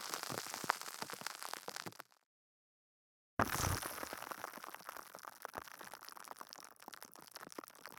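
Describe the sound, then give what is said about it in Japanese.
Carbonated water fizzes in a dense, steady crackle of tiny popping bubbles, cutting out for about a second before the fizzing resumes just as busily. No one speaks. “ご主人様のお耳の中で炭酸水の泡がパチパチと弾けてる。”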